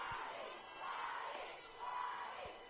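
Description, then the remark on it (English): A large baseball crowd chants the batter's name, "Waddy," in unison as he steps to the plate, the massed voices swelling and fading in a steady rhythm about once a second, loud and echoing as in a ballpark. “As Waddy will now step to the plate to the cheers of Waddy from the crowd.”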